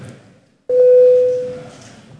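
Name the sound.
parliament voting bell signal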